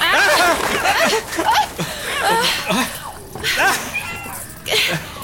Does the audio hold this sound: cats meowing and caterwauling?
yes